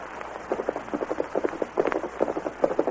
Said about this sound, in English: There's a man riding toward us, Tonto. He's the one we want. Steady, Silver.